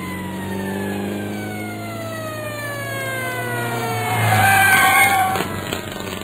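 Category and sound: vehicle, ambulance arriving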